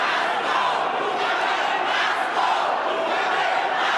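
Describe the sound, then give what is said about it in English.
A large crowd chants the slogan "Mugabe must go" together after a speech, a loud, dense roar of many voices that stays steady and unbroken throughout, with a faint rise and fall in the shouting. “It was also followed by these chants.”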